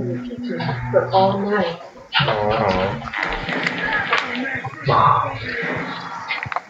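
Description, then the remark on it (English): A dog whimpers and gives short barks amid a busy mix of voices and game-like sounds, the canine noises moderately loud, tangled with ongoing talk throughout. “Hey, doggy.”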